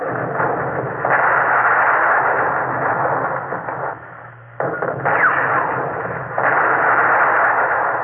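Heavy gunfire from Japanese naval guns, firing on the Russian ship Alexander, merges into a dense, continuous roar of rumbling blasts, briefly dropping away midway before surging back at full strength. No voices are heard.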